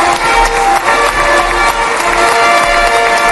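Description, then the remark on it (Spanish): A large crowd in Jerusalem applauds Trump in a dense, steady wash of clapping with an ovation-like swell, loud and unbroken for the whole stretch, with no clear voices standing out. “Trump recibido entre aplausos y ovaciones en Jerusalén.”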